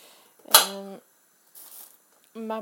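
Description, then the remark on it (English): An open door creaks as the wind keeps blowing it: a sharp knock followed by a low, drawn-out groaning creak like an old ship, a brief soft hiss, then a second short creak of similar pitch. “My door's open and wind keeps blowing it, and it makes this creaking noise like an old ship.”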